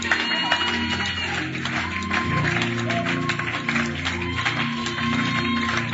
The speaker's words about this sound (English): Clap for Jesus.